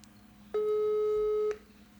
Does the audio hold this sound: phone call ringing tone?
yes